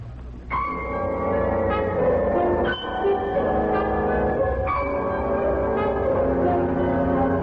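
A ship's bell strikes six bells at 11 p.m. on a cruise ship, several times in spaced pairs, each ring lingering over a steady low drone, clear and fairly loud with no voices.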